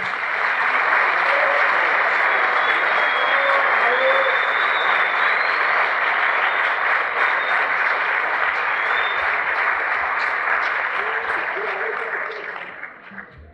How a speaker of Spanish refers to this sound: Te recibimos con este aplauso del pueblo.